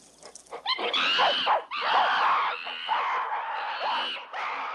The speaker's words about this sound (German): In der Wüste sitzen Affen um ein Wasserloch.